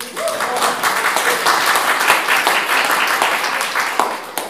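A crowd applauds steadily, a dense wash of many hands clapping at once, sustained and fairly loud throughout with no one speaking over it.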